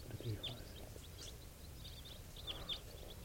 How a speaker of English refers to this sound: There's some wild birds coming around. This is 431. Wild birds type 4s, a flock of about 10 flying over.